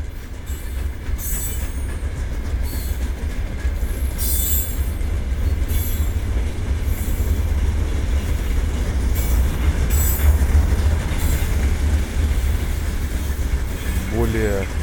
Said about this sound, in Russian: немного машин, шипение такое, самолет, который сейчас гудит, железная дорога и поезда проходящие.